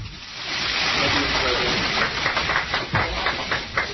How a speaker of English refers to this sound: I don't count more than a dozen claps. It was just awkward.